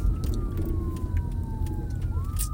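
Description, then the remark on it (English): An ambulance siren wails steadily over heavy low road rumble, its tone sliding slowly downward as it passes a car that has pulled over to let it go by, then rising again at the end. “Oh, here's an ambulance. And nice. An ambulance. We're going to pull over and let it just go by.”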